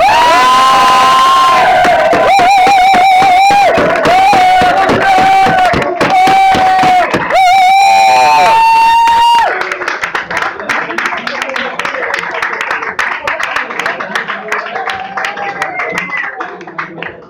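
A large crowd claps and cheers loudly and continuously, with high shouts and whoops riding over dense applause; the roar stays intense for the whole stretch, thinning only slightly toward the end.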